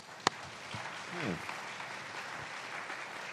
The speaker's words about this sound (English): But with that, let's give them a great round of applause.